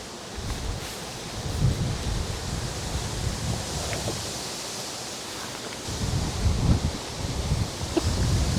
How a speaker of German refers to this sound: So windig, dass es meine Frisur durcheinander gebracht hat und diese ganze Architektonik von mir noch nicht so gewohnt ist.